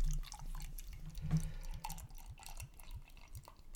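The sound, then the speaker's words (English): Schlenkerla Erle beer glugs steadily into a glass, a quick run of gurgling pulses that rise in pitch as it fills, with faint drips and no voices. “So this is, I'll let you pour as much as you wish. This is Schlenkerla, no surprise.”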